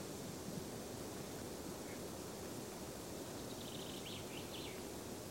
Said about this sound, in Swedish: Ganska tyst här uppe på den långsträckta bergsplatån. Men nu tycker jag ändå att det kommit igång lite fågel och vind.